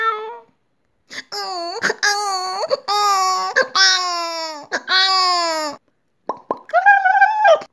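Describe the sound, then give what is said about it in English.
A cat yowls in a series of loud, drawn-out wavering wails, each rising and bending in pitch, with short sharp clicks between the cries and a higher, shorter moan at the end. “Who let the cat in?”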